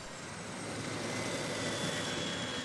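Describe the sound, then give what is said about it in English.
A steady, loud drone of aircraft engines as five crop-fumigation planes fly in, returning from a fumigation mission in Tumaco, Colombia, with a continuous roar and a faint whine running through it, no voices present. “Five planes, funded with American dollars, returned from a mission in Tumaco, a seaside town that's among the most forlorn outposts in the war on drugs.”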